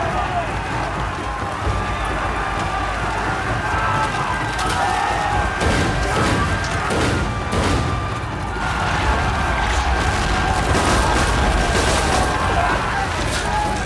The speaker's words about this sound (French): La bataille ne se limite plus à un simple duel d'épée, mais se transforme en une lutte acharnée, mêlant tirs d'arquebuses et détonations de canons qui font des ravages.